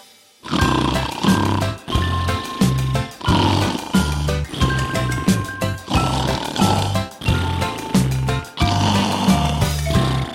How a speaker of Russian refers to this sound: Поют они зимой в берлоге песни. Их песни называются храпесни. И кто хоть раз медвежью песнь услышит, замрет в восторге и почти не дышит.